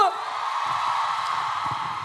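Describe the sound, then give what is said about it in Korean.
A fan-meeting audience, asked by the hosts for applause and cheers, roars with sustained cheering and applause, a dense, steady wash of voices and clapping that holds at an even, loud level for about two seconds. “자, 박수와 함성 한번 주세요!”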